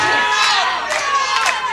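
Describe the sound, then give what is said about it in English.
A crowd claps along and cheers loudly and steadily for an a cappella song, with high shouts and whoops rising above the noise in a few bursts, no single voice speaking clearly. “Swallow that pride and clap like a girl. Yeah, there you go.”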